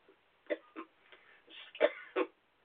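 cough

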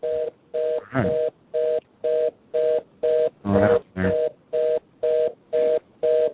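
telephone busy signal

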